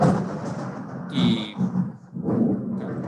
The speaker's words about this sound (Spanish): Está lloviendo fuerte por aquí.